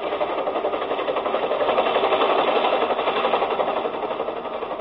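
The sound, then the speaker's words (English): A helicopter comes in to land at night in San Borja, on the other side of the mines: its engine drones steadily with a rapid, buzzing rotor flutter, loud and unbroken throughout, swelling slightly in the middle before easing a little at the end. No voices are heard. “Anybody who comes into San Borja in a helicopter at night is a pretty good bet to be important.”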